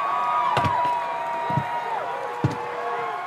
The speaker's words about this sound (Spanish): Mientras que el profesor subía al templete, los vitoreos fueron aumentando.